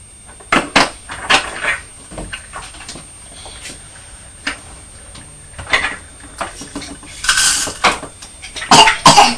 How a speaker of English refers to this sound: Oh dear. That's a cough.